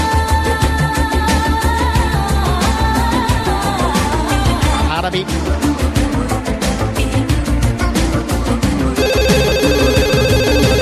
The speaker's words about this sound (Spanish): pero ahora suena el teléfono de Telefonis Ringing.